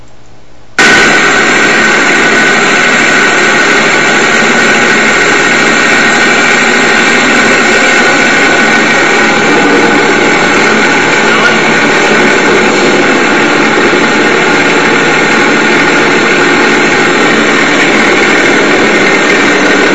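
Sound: engine idling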